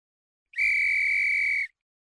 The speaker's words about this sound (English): The sound of the whistle had so fascinated him that he could not help trying it once more, this time more boldly.